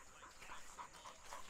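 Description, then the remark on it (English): A dog pants rapidly and steadily outdoors in nature, breathy rhythmic huffs repeating through the short moment with no one speaking. “I'm out here enjoying nature with my dogs.”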